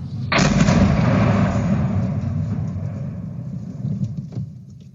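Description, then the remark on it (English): A rocket lands a few meters from a falafel shop and explodes in a sudden loud blast, followed by a heavy, sustained low rumble that slowly fades over several seconds, with no voices present. “As you'll hear, the sirens come after the second rocket landed.”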